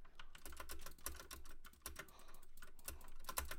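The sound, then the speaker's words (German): Rapid, uneven typing on a cheap 12-euro computer keyboard: a dense stream of sharp, clattery key clicks with a low thump under each press, steady for a few seconds with no voices. “Ich habe halt so eine 12-Euro-Tastatur, okay?”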